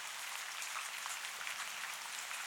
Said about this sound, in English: The warm rain falling on you has a cleansing effect. As it lands on your body, it washes away tension and stress and negativity.